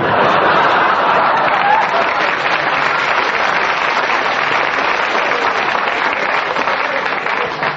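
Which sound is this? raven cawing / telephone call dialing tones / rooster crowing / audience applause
audience applause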